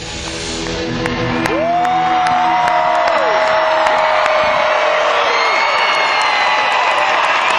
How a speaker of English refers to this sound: It was fun. It was a great night. And then they did say good night. They left the stage. Listen to this crowd.